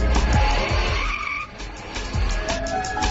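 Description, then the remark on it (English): Race car tires skid and squeal loudly, a continuous screech with shifting pitch over roaring engine noise, lasting about three seconds with no voices, played by the Google Assistant as its answer when asked its favorite car. “What's your favorite car? I like fast cars.”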